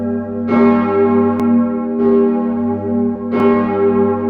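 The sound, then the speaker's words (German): A large church bell, the sixth Marienglocke, cast by the Petit & Gebrüder Edelbrock foundry in Gescher, Westphalia, tolls three times at a slow, steady pace, each deep strike blooming into a rich, humming resonance that carries through to the next. No voices are heard. “So goss die Gießerei Petit und Gebrüder Edelbrock im westfälischen Gescher die mittlerweile sechste Marienglocke, für die der noch junge Bildhauer Ludwig Schaffrath die Zier entwarf.”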